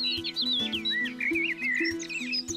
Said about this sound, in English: I've come to the Devil's Glen in County Wicklow, and these are the woodlands of my youth. I spent hours exploring this place, and it still sounds the same today as it did back then. That's the great thing about birdsong.